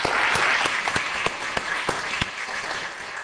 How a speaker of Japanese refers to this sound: トーンチャイムの演奏をしてくださった …の皆さん、今年はお揃いのユニフォームもできて、本当に素晴らしい演奏をあちこちで聞かせてくれました。…の皆さんに拍手しましょう。